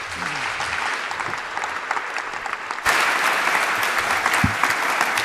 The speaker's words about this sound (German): Einen großen Applaus.